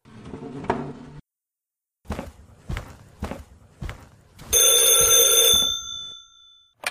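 A few footsteps, then a loud telephone bell rings out in a single long metallic burst and rings down into silence.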